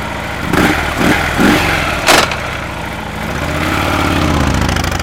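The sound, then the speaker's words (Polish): A motorcycle engine idles with a steady low rumble, a few short blips of throttle, then the revs rise smoothly as it pulls away, with no talking. The motorcycle is setting off after a stop in Grajewo, on a ride from Łomża to Augustów. “Dzisiaj jadąc motocyklem z Łomży do Augustowa postanowiłem zrobić krótki przystanek w Grajewie”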